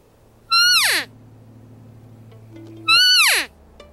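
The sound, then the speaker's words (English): Two loud, nasal mews from an elk cow call imitating a female elk, each sliding sharply downward in pitch and lasting about half a second, separated by a couple of seconds of quiet; blown from bushes about 45 yards from a group of about 40 elk in September. “And I got up into these bushes and I took out my cow call. And so this call imitates a female elk.”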